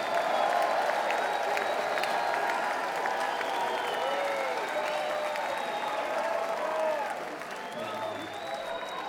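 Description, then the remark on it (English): Sustained audience applause at a live music performance, a dense, steady wash of clapping with some voices mixed in, holding strong for most of the stretch before easing slightly near the end. “Give yourselves a hand, all right?”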